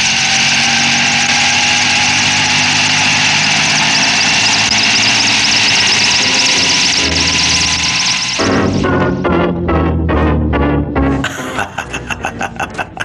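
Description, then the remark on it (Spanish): A loud, steady helicopter engine roars for several seconds as its rotor is started up again, then breaks into a rhythmic, pulsing rotor chop as the helicopter lifts off. No one speaks. “El potente helicóptero se eleva con indescriptible fuerza como flecha disparada al cielo.”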